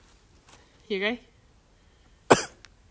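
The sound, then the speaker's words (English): A brief bout of coughing from someone who had a sore throat: a strained, throaty hack followed a moment later by one sharp, loud cough, with quiet pauses in between. “And now I've got a flipping cough.”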